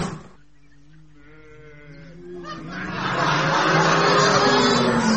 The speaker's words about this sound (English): Moo cows. They must live around here.